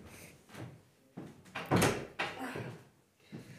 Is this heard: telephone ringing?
no